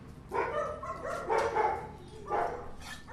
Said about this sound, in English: As volunteers bustle in and out, dogs are barking for their afternoon feeding.